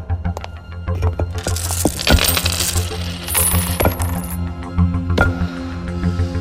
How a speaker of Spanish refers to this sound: Están vertiendo sobre una mesa un montón de monedas, de joyas y también un vaso. El Santo Grial.